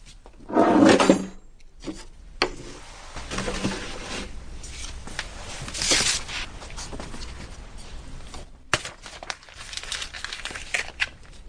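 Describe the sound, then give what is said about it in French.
A drawer slides open with a loud scrape, followed by rustling and rummaging with scattered knocks and clicks as someone fetches chopsticks from it, then a final thud as it shuts. “Tu me donnes mes baguettes, s'il te plaît? Elles sont là dans le tiroir.”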